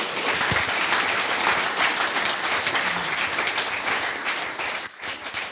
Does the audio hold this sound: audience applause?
yes